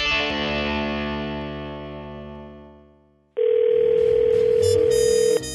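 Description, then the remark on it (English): A sustained chord fades away, then a loud, steady telephone dial tone cuts in abruptly and holds unchanged for about two seconds before stopping, as a call is placed to the Monkeys Pod, a used bookstore in Toronto. “So this past week, we called up the Monkeys Pod.”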